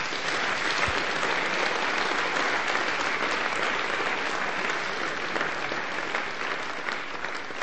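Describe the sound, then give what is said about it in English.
Sustained audience applause at a church service, a dense wash of many hands clapping at a steady loudness for several seconds with no voices rising above it. “Okay, let's give them a round of applause.”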